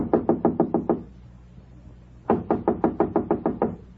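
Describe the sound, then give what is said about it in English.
Firm, rapid knocking on a hotel room door: a quick run of about seven raps, a pause of over a second, then a longer volley of roughly nine raps, loud with no voices. “No answer. He must be in.”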